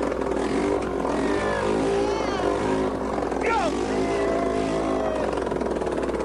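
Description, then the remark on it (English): A loud, harsh engine running without an exhaust roars and revs, its raw unmuffled rasp rising and falling in pitch, with a voice shouting briefly over the noise. “Who needs an exhaust? All right. Meant to make a noise. Got to get this damn thing going.”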